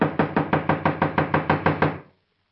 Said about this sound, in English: I'm wearing out my knuckles on this door. Well, try the bell. I did. Not working, as usual, in these places. Well, knock again.